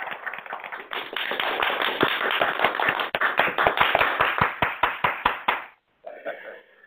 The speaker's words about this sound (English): Those applause echoes are kind of interesting.